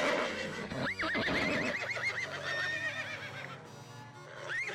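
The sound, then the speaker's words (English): A horse whinnies loudly and at length, its neigh rising and trembling, then calls again briefly at the end, while hooves clip-clop steadily underneath. No one speaks. “Ferdinand VI commissioned this big building, which occupies an entire block, to house the stables and the carriage house of the Queen Mother Elizabeth Farnese, where the carriages and horses were kept, as well as rooms for the servants.”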